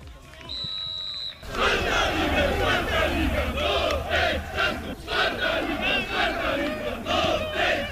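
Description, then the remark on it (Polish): A brief tonal jingle gives way to a loud football crowd at the TPS Winogrady stadium cheering and chanting as Noteć Czarnków celebrate promotion to the fourth league after a 2-0 win, with rhythmic shouted bursts swelling over a steady roar of many voices. “Ogromna radość na stadionie TPS-u, ale ekipy Noteci Czarnków, która potwierdziła swój awans do piłkarskiej Artwood czwartej ligi.”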